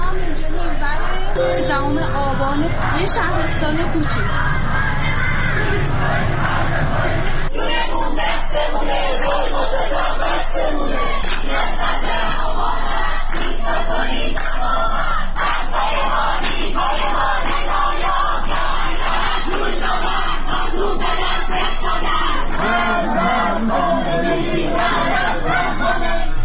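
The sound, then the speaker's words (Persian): A large crowd of protesters on 20-Metri Javadieh street in Tehran, on Friday 13 Aban 1401, shouts and chants slogans in unison, loud and continuous, with raised voices overlapping into a dense roar of yelling and chatter throughout. “جمعه 13 آبان 1401، 20 متری جوادیه، بچه ها دارن شعار میدن.”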